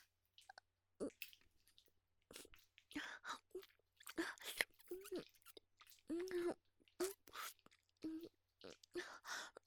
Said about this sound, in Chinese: 你问我嘴里含着什么呀？我在咀嚼草药呢。你没听张大爷说吗？我在帮你家的驴涂抹中草药，要先用嘴中和一下。